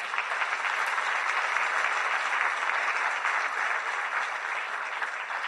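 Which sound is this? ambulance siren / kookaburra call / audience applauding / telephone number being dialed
audience applauding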